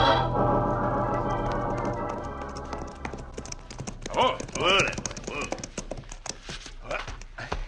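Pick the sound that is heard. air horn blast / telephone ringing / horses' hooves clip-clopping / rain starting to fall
horses' hooves clip-clopping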